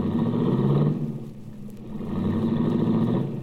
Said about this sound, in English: I watched Cookie's baby blue convertible cut out into the traffic.